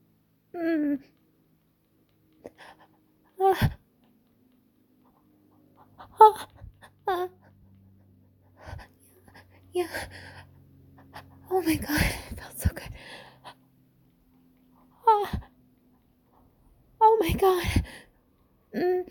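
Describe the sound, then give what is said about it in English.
A dog whimpers with short, high whines and pants in breathy bursts, the sounds scattered with quiet gaps and a faint low hum underneath. “Dog is coming through.”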